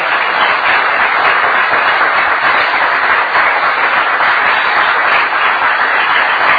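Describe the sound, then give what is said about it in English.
A crowd applauds steadily, a dense, even wash of many hands clapping at once, sustained at full loudness for several seconds without any voices breaking through. “Now's the time to applaud.”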